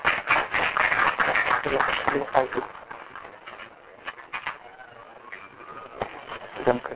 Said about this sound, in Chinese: 那我们也掌声欢迎我们的吴牧师。